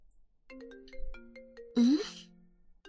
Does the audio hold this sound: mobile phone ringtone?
yes